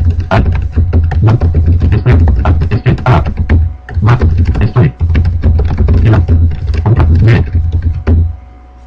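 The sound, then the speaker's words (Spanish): Rapid typing of a Skype message on a computer keyboard, a dense stream of sharp key clicks with a couple of brief pauses, continuing steadily before stopping near the end. “Ahora vamos a poner a escribirle.”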